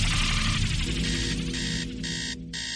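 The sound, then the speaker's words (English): A phone alarm rings steadily, a dense, bright electronic tone with layered harmonics that briefly dips twice near the end before continuing. No voices are heard. “Shut up, phone.”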